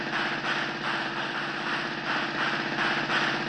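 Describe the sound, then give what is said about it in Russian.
A car engine runs with a steady, throaty rumble and a faint rhythmic pulsing as the car drives away, holding an even loudness for a few seconds with no voices. “Довольные сыщики схватили синий ящик и уселись в свой автомобиль.”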